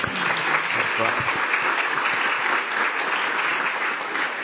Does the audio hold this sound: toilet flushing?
no